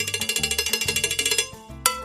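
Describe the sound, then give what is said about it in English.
A steady cowbell rhythm of quick, evenly spaced metallic clanks over a low bass line, thinning out briefly before one louder final strike. “When he left for Nueva York, he took the bell with him and brought that rhythm to Queens.”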